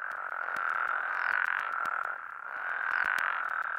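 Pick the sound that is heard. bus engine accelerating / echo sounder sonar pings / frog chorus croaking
frog chorus croaking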